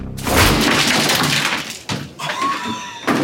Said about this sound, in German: Jetzt und zum Beweis und mit meiner ausdrücklichen Erlaubnis darf er einen Monoblock auf dem Boden unseres Lasters zerschlagen. Ein Hieb und das Ding ist hin.